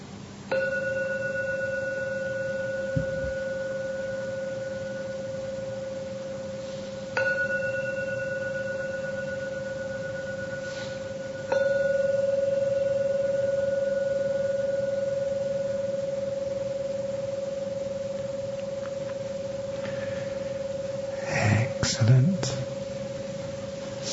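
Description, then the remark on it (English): A Buddhist gong is struck three times to end a meditation, each strike ringing out in a long, steady metallic hum that slowly fades. A brief rustle follows near the end. “Enjoy the sound of a Buddhist gong.”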